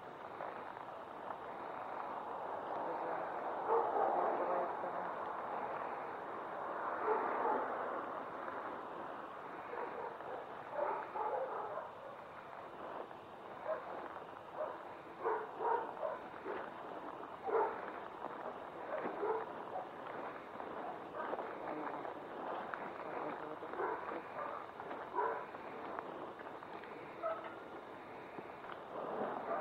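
A dog barks repeatedly in short, uneven bursts over a steady, rushing background noise, moderately loud, with no one speaking.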